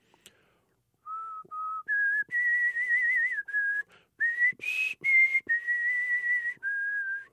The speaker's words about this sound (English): I straightened up and began to whistle the melody of Gott ist die Liebe